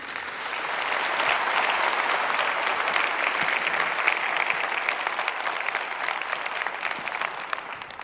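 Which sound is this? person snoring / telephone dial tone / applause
applause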